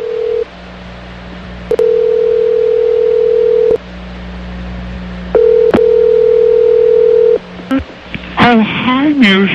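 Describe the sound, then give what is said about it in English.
A phone call goes out to Tiger Woods: a steady humming dial tone sounds in long stretches, broken by sharp clicks and brief gaps, before a voice comes on the line at the very end. “They're going to have another child, so we have a number for Tiger. Let's give him a call and see if we can talk to him about becoming a papa again.”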